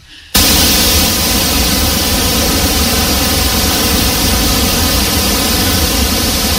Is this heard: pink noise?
yes